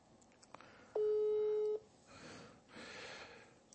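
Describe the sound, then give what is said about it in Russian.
A single steady telephone ringback tone sounds for just under a second as a call is placed to a priest, loud and clear over a faint hiss, followed by quieter line noise and a burst of static. “как раз вот он нам даст полностью, сейчас я его попробую, вот, батюшку вызвать, расскажет нам о своих делах, как у него происходило, что там происходит в многострадальном Зайцево.”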